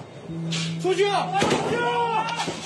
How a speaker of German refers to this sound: Aber aus allen Richtungen hören sie Schüsse, Explosionen. Sie haben angefangen zu kämpfen, sagt dann noch einer.